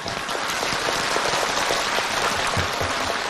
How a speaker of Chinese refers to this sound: 对，鼓掌。